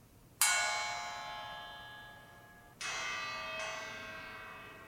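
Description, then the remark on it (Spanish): Two brass pieces at the outer end of a hanging mobile chime three times: one bright ringing strike that fades slowly, then two more a moment apart, each leaving a long, shimmering metallic decay with no talking. “Y descubre que el móvil hizo un sonido.”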